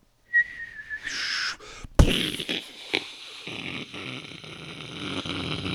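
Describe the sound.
A voice imitates explosions, the kind of explosion sound effects made as a kid playing war: a thin falling whistle, then a sharp burst followed by sputtering, crackling blasts and a long hissing rumble that carries on to the end, with no speech.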